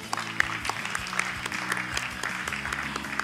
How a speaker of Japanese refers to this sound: 皆様どうぞ拍手でお迎えください。